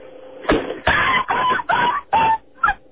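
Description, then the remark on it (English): A man imitates a black Labrador being kicked, yelping, giving about six short, strained, high-pitched cries in a quick uneven run, loud and with no talking around them. “No, that's him doing it. It's an impression.”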